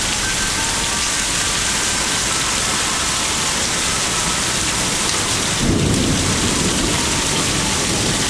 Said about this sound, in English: under my carport with the rain and thunder and stuff going on. This is great. Power's blipping and all that good shit, man. This is great. Got the wind chimes blowing. And this storm is right on top of it. This is great.